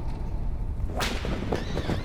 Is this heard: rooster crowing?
no